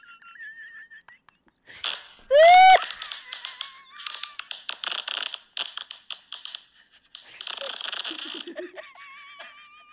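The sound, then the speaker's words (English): A recorded fart plays back: a loud, squeaky tonal blast rising in pitch, then a long run of rapid crackling, sputtering pops and squeals, with no one talking over it. “And the audio is his fart.”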